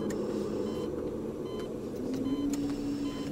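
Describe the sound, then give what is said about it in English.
A steady low mechanical hum of hospital machines, with a faint tonal drone rising partway through and a few soft, scattered blips and ticks of beeping. No one speaks. “I was surrounded by the humming and beeping of machines and the squeak of new rubber shoes against an old tile floor.”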